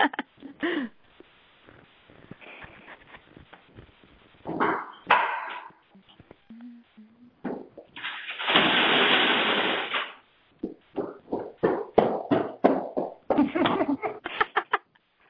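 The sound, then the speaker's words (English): A janitor's vacuum cleaner running outside the room in a school, its steady roaring hiss lasting about two seconds amid irregular knocks, bumps and short bursts of noise; nobody speaks. “I've got the janitor in my school now outside my room with a vacuum.”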